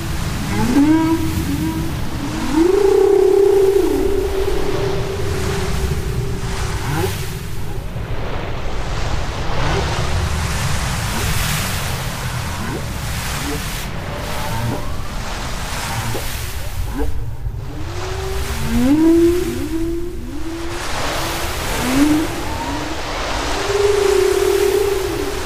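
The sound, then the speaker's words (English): Long, moaning whale calls rise and fall in pitch over a deep, rumbling underwater wash, repeating at intervals with short swoops and drawn-out tones, fairly loud. “Okay, wonderful whale sounds.”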